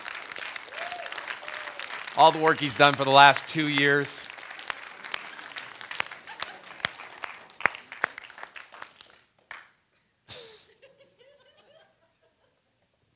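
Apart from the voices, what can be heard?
audience applause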